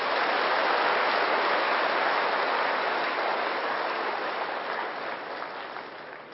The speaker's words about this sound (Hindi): तो ऐसी दादियों के लिए एक बार भरपूर रीत से हम ताली बजाएंगे।